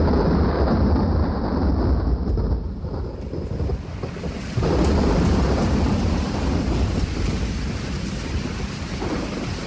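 Heavy rain pours steadily while deep thunder rumbles and rolls through, loud, with gusts of wind buffeting the microphone and no voices.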